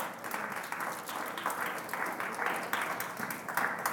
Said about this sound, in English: Somebody give God a hand clap of praise this morning.